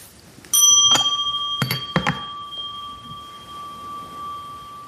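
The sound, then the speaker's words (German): A doorbell rings with a sharp chime and a long, steady ringing tone that lingers, accompanied by a few mechanical clicks or knocks early on, clear with no speech. “Tja, jetzt kannst du mal klingeln.”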